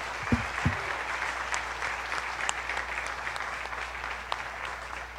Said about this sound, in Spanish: Entonces, ¿qué le parece si le damos un fuerte aplauso al Dream Team que hoy está aquí con nosotros sirviendo?